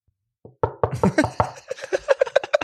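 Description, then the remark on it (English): A quick series of about a dozen sharp, loud knocks, starting a little uneven and then settling into a fast, steady rapping rhythm with no voices. “Knock, knock.”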